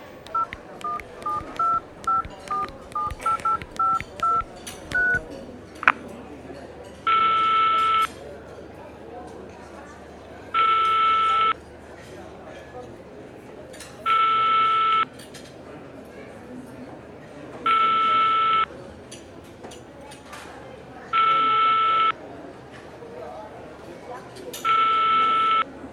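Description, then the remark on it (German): A phone number is dialed as a quick run of about a dozen short touch-tone beeps. Then come evenly spaced ringing tones, each about a second long, repeating over a low background hum. “Hast du die Nummer? Ja, die musste ich noch zusammenkriegen. Ich habe die Nummer auf Nolos Handy gesehen.”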